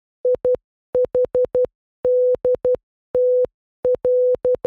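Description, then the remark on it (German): A clear, steady mid-pitched tone keyed on and off in quick short dots and longer dashes, forming several groups of Morse code beeps spelling IHDTL ("ich hab dich trotzdem lieb", I love you anyway), not SOS, with brief gaps between them and no voices. “Ja, es war Morsecode, aber es war nicht SOS.”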